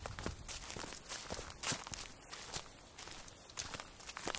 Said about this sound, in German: Wir laufen wieder auf Steinen. Minus Meeresgeräusche. Das macht die legendären Feuersteinfelder zwischen Sassnitz und Prora.